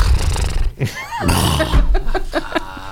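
A voice imitates a horse's whinny, a loud, wavering neigh with rising and falling pitch, followed by a few short vocal bursts and chatter.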